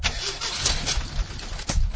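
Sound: car engine starting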